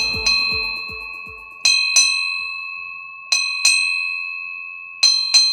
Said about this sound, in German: Acht Glockenschläge. Eine alte Seefahrertradition. Sie bedeutet: Eine wichtige Person ist von Bord gegangen.